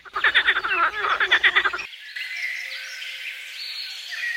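A frog croaks in a quick, rhythmic run of about a dozen rasping pulses, fairly loud, then stops, leaving a soft, steady hiss.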